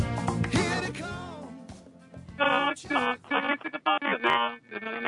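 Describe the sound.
A voice at the start gives way to a telephone ringing in rapid, repeated electronic bursts, loud, the pattern of a ringtone pulsing through the final seconds.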